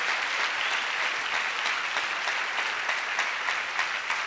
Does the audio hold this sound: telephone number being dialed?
no